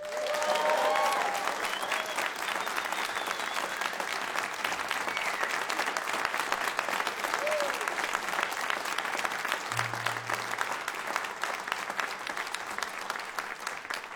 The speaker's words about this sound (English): In session for us tonight, I'm delighted to welcome the incomparable and award-winning … with their director, Professor …. And I think they deserve a massive round of applause.